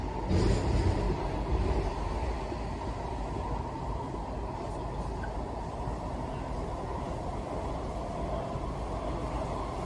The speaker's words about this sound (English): And I mean, look at this metro train. This must be the safest metro train ever. Look at this.